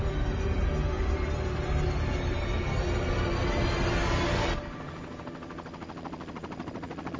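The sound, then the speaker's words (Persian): The US president's personal helicopter roars loudly as it lifts off from the Camp David retreat to carry Hamilton Jordan to Andrews airfield; its dense engine and rotor noise drops after a few seconds to a steadier, quieter, rhythmic thumping of blades, with no voices. “اکنون بالگرد از استراحتگاه کمپ دیوید برای رساندن همیلتون جردن و همراهش به فرودگاه اندروز برمی‌خواست.”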